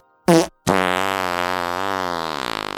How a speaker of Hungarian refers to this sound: A fingó párna kiváló szórakozás, akár baráti összejöveteleken is. A műsorszám fingó párna megjelenítést tartalmazott.